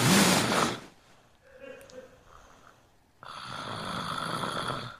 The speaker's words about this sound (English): She fell asleep so fast. And now she's snoring like the biggest dumbass.